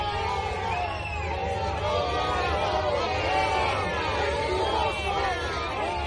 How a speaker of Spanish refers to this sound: Pues se han encontrado, nada más se ha dado cuenta la gente que estaba a los alrededores, que estaban entrando, Sánchez e Illa, con un sonoro abucheo.